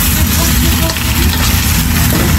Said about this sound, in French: Les pommes de terre rissolent en cuisine